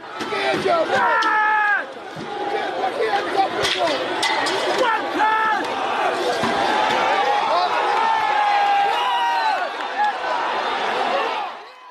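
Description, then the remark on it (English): A loud, chaotic crowd of male rioters at a hotel in Britain shouting and yelling over one another as police try to tackle them, with sharp bangs and thuds as thrown bricks and wooden stakes strike, a continuous roar of voices throughout. “They throw bricks and wooden stakes. Their shouts become louder.”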